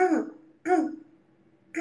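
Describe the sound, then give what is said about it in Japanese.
A child clears their throat in short voiced bursts, two full ones about half a second apart and a third starting as it ends, fairly loud with no talking. “これ咳払いはね、”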